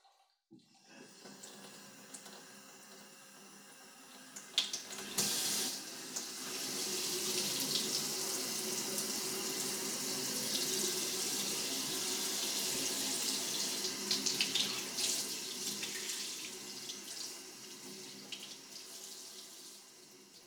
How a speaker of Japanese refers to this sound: それではシャワーでお耳を洗い流していきますわね。